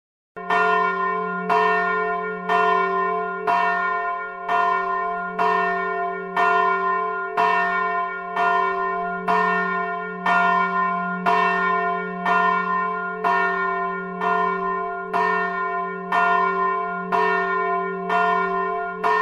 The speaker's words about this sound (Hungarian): A Mohácsi emléktemplomba, Mohácsi csatának az emléktemplomába készült ez a harang. 500 kg-os, 104,5 cm alsó átmérői és F1 hangon készült el, tehát Gombos Miklósnak és Ferencnek a munkája 2020-ból.